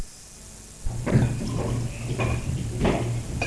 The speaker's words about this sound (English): Would you pour the water into this white cup over here, please, for me?